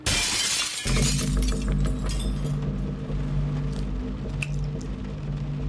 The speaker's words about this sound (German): Er hat die Scheibe eingeschlagen, die Tür von innen aufgeschlossen.